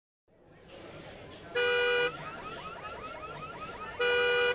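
A car alarm blares, cycling between a steady harmonic tone in two loud bursts and a rapid warbling chirp pattern in between, with faint background noise.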